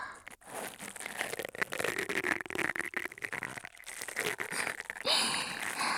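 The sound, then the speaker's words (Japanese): Steady, scratchy scrubbing and rubbing with quick, irregular strokes and a crinkly, rustling texture, fairly loud throughout and briefly swelling near the end, with no voices. “もう少しゴシゴシしますね。ゴシゴシゴシゴシ、コソコソコソコソ。”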